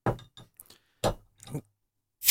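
A bottle of Westvleteren 12 beer, a 10% beer, having its cap pried at, producing a few short, sharp metallic clinks and scraping bursts spaced unevenly across a couple of seconds, with no talking.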